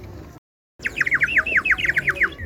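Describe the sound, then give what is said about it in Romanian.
Clay water whistles, with water inside that bubbles, warble in a rapid, bird-like trill of repeated chirping notes in a park, fairly loud after a brief moment of silence, with no voices. “Sunetul acesta poate fi greșit cu cel al unei păsărici, dar el vine de fluierele de lut”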